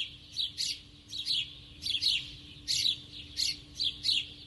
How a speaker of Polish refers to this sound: To był bardzo charakterystyczny dźwięk na ulicy, wróble ćwierkające w tym pogłosie ulicznym.